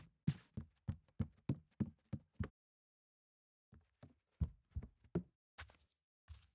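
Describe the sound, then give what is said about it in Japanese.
Someone is trying to open a front door whose lock has been broken: a rapid series of thuds and rattles, a short pause, then another uneven burst of bumps and knocks, with no voices. “もしかしてお姉さまが玄関のドアを開けようとしているのではないですか。”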